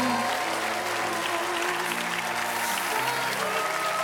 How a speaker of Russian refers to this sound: Ну, смотри, как хлопают все тебе.